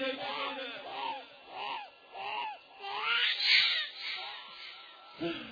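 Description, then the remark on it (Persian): A hungry, frightened young child cries in a series of rising and falling wails, loud, with a murmur of other voices swelling in the background before a final sob. “به خدا اینو شاید 1 ساعت نباشه مادرش غذاش داده، این بچه از شب آجورا تا غروب این گریه یه ترسه.”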